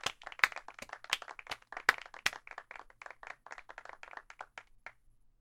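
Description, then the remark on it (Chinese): A burst of applause from a class of students at a girls' school welcoming a new higher-mathematics teacher, many hands clapping in quick, overlapping rhythm with a few sharper louder claps standing out, fading away after about five seconds. “好了，下面让我们用掌声欢迎邵老师加入学校吧。”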